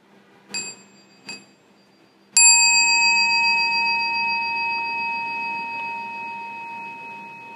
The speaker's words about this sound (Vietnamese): Mình nữa, mình lắng nghe tiếng chuông, mình hồi hướng.